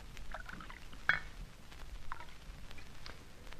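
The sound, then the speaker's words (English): A quiet, steady trickle of water being poured into a glass for a drink, with a single sharp clink of glass near the start and soft noise underneath. “Soda? No, Carson. You know I always have water.”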